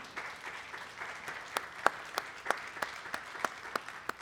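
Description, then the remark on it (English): An audience applauds steadily in thanks to the people in the back who work to make things run, a soft wash of many hands with a few sharper individual claps standing out in a loose, regular rhythm. Nobody speaks over it. “You can even clap if you want to.”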